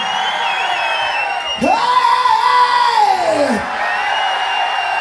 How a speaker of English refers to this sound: Just real easy. I'm going to yell something out. You yell it back, okay?